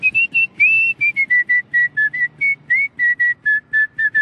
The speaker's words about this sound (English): I started whistling real young because, and I think this is kind of a generational thing, my father used to whistle all the time, and my grandfather used to whistle, and I think it was more common for people to do that,